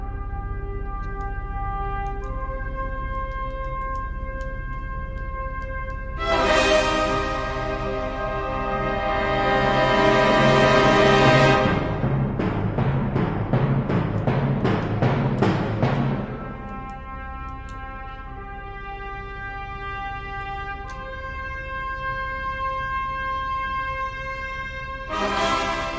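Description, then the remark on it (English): Dramatic instrumental bumper music for the Tom Wall Show on the Civic Media Radio Network, with sustained tones, a big swelling hit that builds into rapid pounding drum pulses, then settles back into held notes before another accent at the end. “Zombers, very dramatic on the bumper music.”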